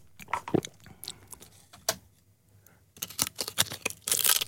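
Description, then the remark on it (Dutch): Someone eating crisps, with sharp irregular crunches and crinkly rustles coming in bursts, a short quiet pause midway, then a busier, louder stretch of crunching and crackling toward the end. “Oh, dat ben jij die chips eet. Ik denk, hebben ze nou voor rare kraakgeluiden?”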